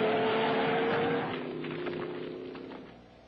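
A truck engine in a film scene of a wild truck ride roars loudly and steadily, then eases off slightly as rattling, jolting bursts come through, as if the vehicle is bouncing over rough ground.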